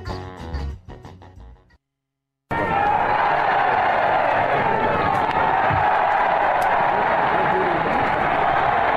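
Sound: crowd chanting and applauding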